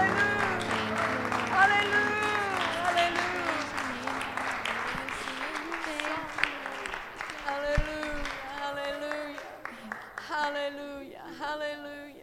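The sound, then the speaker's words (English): An audience gives the Lord a hand clap of praise, a dense wash of applause filling the room while voices call out and sing loudly over it, with sustained tones underneath. “I want to give the Lord a hand clap of praise.”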